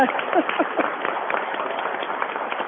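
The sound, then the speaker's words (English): An audience applauds candidates for their stamina, many hands clapping in a dense, continuous wash of crackling bursts that holds at an even loudness throughout, with no voices standing out. “Applause for stamina.”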